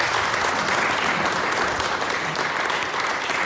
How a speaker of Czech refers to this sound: Myslím ale, že je zřejmé, že samotná nominace je pro autora jistě úspěch. Tak byste si mohli teď tady zájemně zatleskat k tomu úspěchu, poblahopřát.